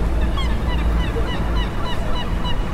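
Many seagulls call over one another at the fishing port of Matosinhos, Portugal, where people are moving fish, in a steady, overlapping chorus, their sharp cries repeating throughout, above a constant low rumble of water and engines.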